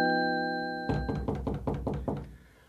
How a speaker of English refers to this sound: It was a bright, crisp Saturday morning. The sun had hardly peaked above the horizon when Bobby and his younger sister Sarah knocked on their parents' bedroom door.